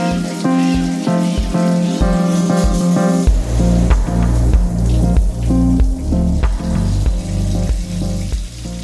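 Shower water runs in a steady hiss that fills the whole clip as someone takes a shower, with a rhythmic musical tune with a thumping bass playing alongside it.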